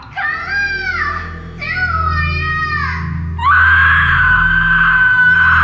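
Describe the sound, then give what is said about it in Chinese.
Three shrill, anguished screams follow one another without pause, each rising higher and louder, the last a sustained piercing shriek, intense over a low rumbling background. “但突然他却听见了一声高过一声凄惨的尖叫。”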